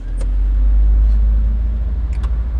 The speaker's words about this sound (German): Da steigen sie also nach dem Sommerfest ins Auto vom Kollegen und der hat Stalldrang und drückt ein bisschen zu fest aufs Gas.